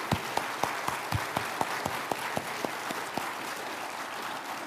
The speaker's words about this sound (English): All right, well, let's give all these graduates a round of applause.